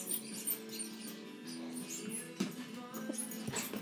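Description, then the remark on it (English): A dog named Trini lets out a drawn-out, hound-like baying howl that holds steady for a few seconds, fairly quiet, with no one talking. “Shitty, that was Trini, that was a hound dog sort of.”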